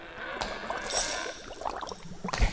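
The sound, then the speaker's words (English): Liquid bubbles and gurgles steadily for a few seconds, a busy, fizzy churning at moderate volume, with a couple of faint glassy clinks near the end. “You're going to be bubbling some drinks. Is that a witch's Bobby cauldron?”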